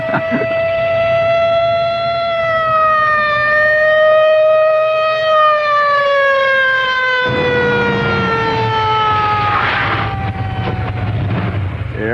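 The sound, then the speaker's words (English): A loud police siren wails steadily over the engine rumble of a police car hurtling along on a rotten night, its pitch sliding slowly downward as it holds a long sustained tone, with no voices. “It's really a rotten night to be hurtling around in a police car.”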